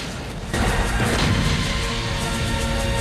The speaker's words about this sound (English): A gun crew work quickly to reload one of the weapons and push it back into a firing position. The fuse is lit and the cannon roars.